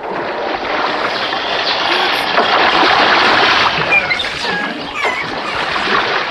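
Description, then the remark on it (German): A large wave rushes and churns loudly, a steady roar of surging water that lifts a small rowboat over a rock toward stone steps at a tower, in wind and spray. It is sustained for several seconds with no voices. “Wir warten auf eine große Welle und lassen uns dann von ihr über den Felsen tragen.”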